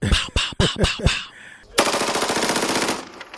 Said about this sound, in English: Cue the gunshots.